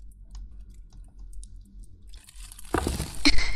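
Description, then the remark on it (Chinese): Faint scattered clicks and rustles give way to a sudden, loud crackling crunch as something is squeezed by hand with increasing force and crushed, the splintering building over the final second. No one speaks. “又加大力度了，要把它捏碎了。”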